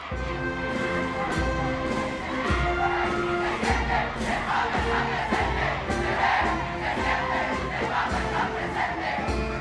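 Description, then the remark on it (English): A large, jubilant crowd in St. Peter's Square roars and cheers continuously, awaiting Pope Benedict's Christmas blessing from the central balcony of St. Peter's Basilica; a dense wash of many voices with rhythmic surges and chant-like pulses, loud throughout with no single speaker standing out. “bands of the Italian army and Vatican Guard took up position shortly before midday and struck up the chords of the two national anthems as the crowds waited excitedly for the red velvet curtains of the central balcony of St. Peter's Basilica to part.”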